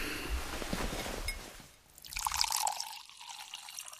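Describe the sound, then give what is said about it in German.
Water is poured into a glass: a steady splashing stream, then a brief gurgling fill whose tone rises before it trails off into quiet. No one speaks. “Noch etwas Wasser”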